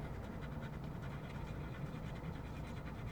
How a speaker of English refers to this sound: In the background, you hear the breathing of the two dogs who've just been running in the grass at the park before dinner.